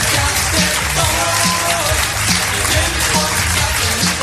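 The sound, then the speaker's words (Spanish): A loud, steady burst of crowd applause fills the whole stretch, dense and continuous, with some faint tonal sounds running underneath. “Me ha encantado la paradilla de los aplausos.”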